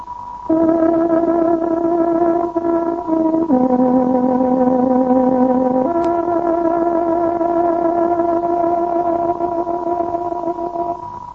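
A Radio Free Europe Hungarian-service time signal on shortwave, marking 21:00: loud, steady electronic tones that hold for several seconds at a time and step to a new pitch a few times, with no voices.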